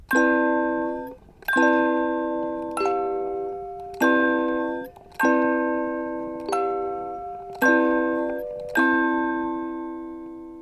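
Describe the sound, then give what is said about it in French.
A bell rings out in about eight clear, evenly spaced strikes, alternating between two tones, each note sustaining and fading before the next. It sounds steady, with no voices. “D'une cloche.”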